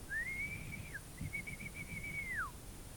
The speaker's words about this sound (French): L'agent se met à siffler.